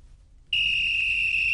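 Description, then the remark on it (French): A referee's final whistle ending a World Cup semi-final in which France qualifies for the final sounds one long, shrill blast at a steady high pitch. It starts abruptly after a short quiet moment and holds loudly to the end over a low rumbling background. “C'est le coup de sifflet de Jules Valentin Gouy.”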